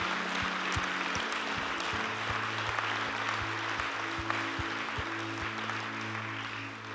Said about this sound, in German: Komm, lass uns den Menschen einen riesigen Applaus geben.